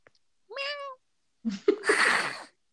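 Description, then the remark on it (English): A person does a short, tonal meow in imitation of a cat, then follows with a longer, raspy, breathy yowl or hiss, both fairly loud with no other talk. “Maybe meow at you.”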